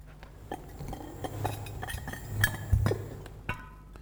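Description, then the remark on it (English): Ceramic pots made by a potter for bonsai trees clink and knock against each other as they are handled, with a series of irregular taps and scrapes over a low steady hum, and no talking. “Here's some pots.”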